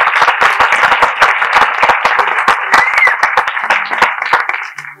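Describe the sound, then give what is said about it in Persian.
An audience claps in applause for the guest of the programme Teli Talk for about five seconds, a dense patter of many hands with sharp individual claps standing out, steady and fairly loud before thinning and fading at the end. “تشویقشون بفرمایید. یه مقدار شدت تشویقا پایینه واقعیت.”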